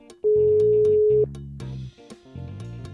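A single steady ringback tone on an outgoing phone call sounds for about a second, loud and clear over a rhythmic background music bed that carries on after the tone stops.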